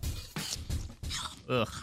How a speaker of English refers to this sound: Can you chew the apple too? I want to hear the crunch.